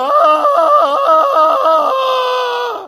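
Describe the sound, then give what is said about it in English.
A father imitates a loud Tarzan-style jungle yell right next to a sleeping person's ear early in the morning, a sustained high-pitched warbling cry that rapidly wavers up and down for about two seconds, then holds steady before cutting off. “Right next to my ear, this Tarzan terrible noise.”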